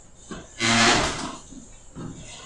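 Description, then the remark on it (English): A loud scraping of chair legs dragging across the floor as class participants turn their chairs to face the window, with a tonal squeal in the middle, surrounded by softer shuffles and bumps of furniture being moved. “So if you guys would turn your chairs to face the window, please.”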